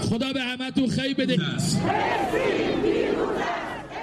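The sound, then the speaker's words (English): A large crowd in Tehran, Iran, on a Friday chants anti-Israeli slogans in loud, rhythmic unison, strong harmonic voices pulsing for the first second and a half before dissolving into a roaring, shouting mass of voices that stays loud throughout. “The Iranians were quick to talk down the impact and significance of the attack, but in Tehran on Friday, feelings were still running high, with crowds chanting anti-Israeli slogans.”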